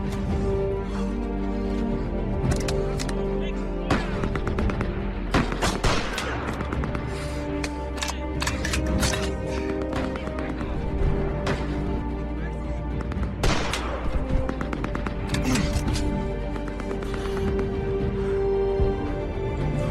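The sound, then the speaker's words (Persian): Heavy, continuous gunfire fills the scene: rapid bursts and scattered single shots crack over a dense, rumbling battle din, loud throughout, with no clear talking. “تیر اندازید خوبه لعنتی.”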